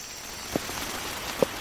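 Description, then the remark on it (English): Rain falls in the Amazon forest as a steady, soft hiss, with two louder, sharper drops landing about a second apart. No one speaks. “So we have rain? Yes, finally.”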